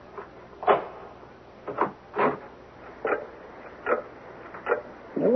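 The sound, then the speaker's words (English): A clock room door lock is picked with a series of short scraping clicks at an uneven pace, ending in a rising creak as the door swings open; no talking. “Hey, are we going in? Give me a nail file, cuz.”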